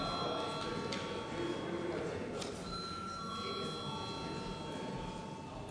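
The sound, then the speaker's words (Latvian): A parliament voting bell, called for before deputies vote on a proposal, rings continuously: a steady electronic tone held for several seconds over a low murmur of background voices and noise. “Lūdzu zvanu.”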